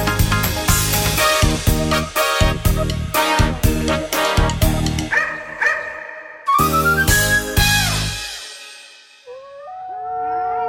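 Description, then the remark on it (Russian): Two chained dogs, Plyukh and Plikh, in a doghouse howl in long, mournful, wavering tones, rising and falling near the end after a loud, rhythmic passage of dense sound; the howls are steady. “Грустно воют Плюх и Плих, не пускают цепи их.”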